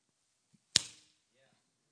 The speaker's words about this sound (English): That clap was supposed to be louder than that. That was a weak clap.